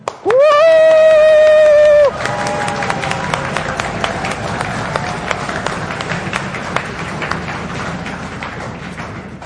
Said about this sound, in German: Also auch hier jubeln und klatschen und stampfen jetzt mal alle in diesem Raum, die auch Schwächen haben. Und ihr könnt ja mal hören, ob ihr uns hört, ja?